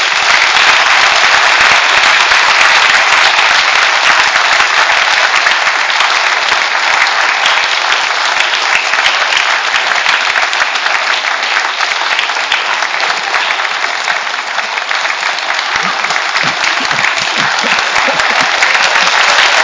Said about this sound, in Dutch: Maar zullen gewoon even een lekker, heel langdurig applaus doen met elkaar om de mensen te bedanken.